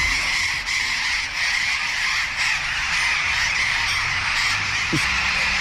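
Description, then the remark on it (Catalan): A dense, continuous din of harsh squawks and chatter from a large flock of parrots that have moved into a town, loud and steady throughout with no pauses, many parrots calling at once. “La fressa que fan els lloros és espectacular. Mira, escoltem-los.”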